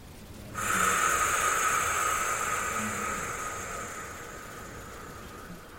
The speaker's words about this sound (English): You're just breathing down into the lower belly, breathing in, and breathing out to the sound of FR, okay?